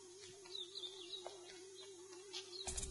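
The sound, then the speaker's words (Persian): Faint, high bird chirps flutter in a garden in the courtyard of a boarding complex in autumn, over a steady low electrical hum, with a brief burst of rustling noise near the end. “محمد از جاش بلند میشه و به طرف صدای پرنده میره”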